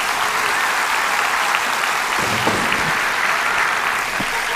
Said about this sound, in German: dafür einen kleinen Applaus für deine, also.